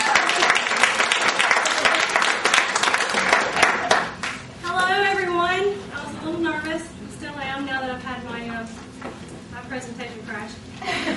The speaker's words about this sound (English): So please give a big, warm round of applause to her.